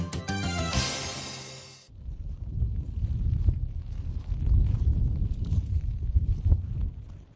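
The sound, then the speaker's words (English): After a brief sustained musical chord, an icy gale roars and buffets the microphone in a low, steady rumble, with drizzling rain pounding new grass and gravel and scattered light crunches, near the Vojna Memorial, a former prison camp in the Příbram region of central Bohemia, Czech Republic. “An icy gale and drizzling rain pound upon new grass and gravel near the Vojna Memorial.”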